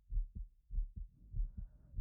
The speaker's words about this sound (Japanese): 落ち着くでしょ。心臓の音。